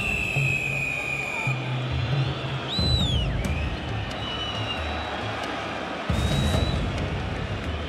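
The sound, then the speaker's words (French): A huge stadium crowd at a World Cup match roars and cheers in a dense, continuous wall of noise, applauding a drop goal by South African fly-half Stransky that puts the Springboks ahead 15–12, with shrill whistles cutting through and swells of excitement midway and near the end. “Alors le stade exulte et la foule en liesse applaudit le drop de l'ouvreur sud-africain, 15 à 12 donc pour les Springboks.”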